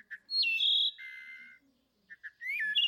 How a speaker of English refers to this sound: You also have the wood thrush from the east. Let's listen.